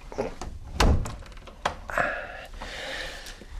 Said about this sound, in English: No, wait. I can... I'll just close this door.